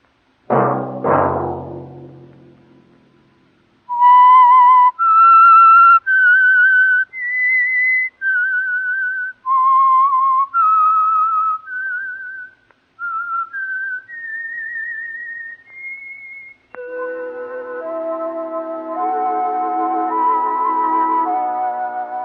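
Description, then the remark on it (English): A lone whistler carries a slow, eerie melody of clear sustained notes that climb steadily, opened by a loud orchestral chord and followed by swelling orchestral music. “Let that whistle be your signal for the Signal Oil program, The Whistler, each Sunday night at the same time.”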